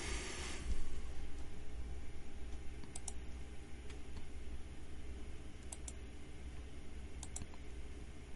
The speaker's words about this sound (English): A lot of clicking because I'm trying to get things squared away.